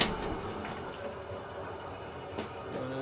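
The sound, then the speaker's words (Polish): A steady, continuous roar of ventilation fans in a mushroom-growing cellar, pushing air under the compost pile to aerate it, supply oxygen and regulate its temperature, with a broad whooshing hiss and low mechanical hum that stays even throughout, with no voices. “Hałas jest od wentylatorów, które tłoczą powietrze pod spód pryzmy i napowietrzają ją, dostarczając tlen do podłoża oraz regulują w ten sposób temperaturę tego podłoża”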